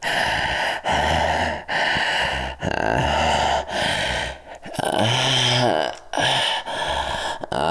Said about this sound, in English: Always knowing just how to make things fucking breathless, panting mess